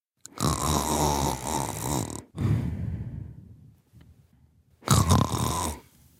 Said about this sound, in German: Hallo, ich bin …, 29, aus Bonn und schnarche.